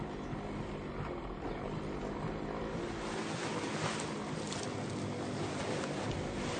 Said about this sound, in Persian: نوار تموم میشه، صدای موتوری از دور میاد.